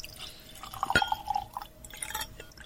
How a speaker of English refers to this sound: We're going to add some water to this one. Add a little drop of water.